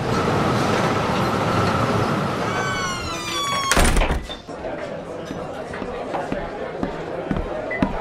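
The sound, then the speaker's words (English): A door creaks open with a rising, squeaky hinge whine as people come in through it, then shuts with a solid thump. Murmuring voices and background commotion continue around it. “They'll be coming in shortly, and I think I see them coming through the door.”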